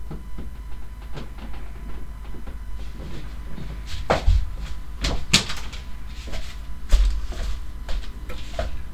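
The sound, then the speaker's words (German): Several sharp knocks on a door, in two or three loose clusters, loud over a steady low rumbling background, with no talking. “Hey, wer ist da? Klopfen, was willst du?”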